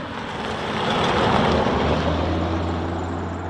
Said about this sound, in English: We'll just watch out for this car coming across.